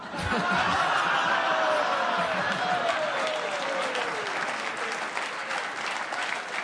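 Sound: applause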